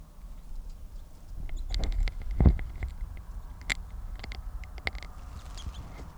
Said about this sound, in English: That bird will be number 664, male with a left crossing bill, and good toops on tape.